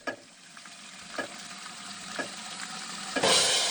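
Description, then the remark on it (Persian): Water runs steadily from a tap during 20 seconds of hand washing, about 6 litres flowing, with a hissing rush broken by a few soft knocks of hands moving under the stream; the flow swells louder in the final moments. “بهتر است بدانیم در طول 20 ثانیه که آب باز است حدود 6 لیتر آب مصرف می شود.”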